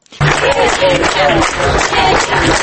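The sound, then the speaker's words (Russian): A protest group of 30 to 40 people on Lenin Street near a McDonald's restaurant claps hands in a steady, continuous wash of applause, about half an hour after the protest began, with a murmur of voices mixed in throughout, fairly loud from start to finish. “На улице Ленина возле ресторана «Макдональдс» группа людей из 30-40 человек примерно через полчаса после начала акции стала хлопать в ладоши.”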